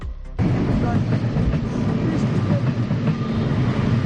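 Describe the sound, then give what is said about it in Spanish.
A train rolls past the hamlet of Amañecida in Laraño, in the municipality of Santiago, with a steady, heavy low rumble and a broad rushing roar, kicking in sharply after a brief quieter opening and holding loud and continuous to the end. “Iso sí, hai que prestar atención para escoitar o tren.”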